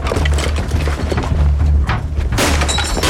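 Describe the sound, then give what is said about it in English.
Armed police with a battering ram pound the door of a flat on an outside landing in a series of heavy, booming thuds, ending in a loud splintering crash as the door gives way. No voices. “Armed police with a battering ram hurry to the door of a flat on an outside landing.”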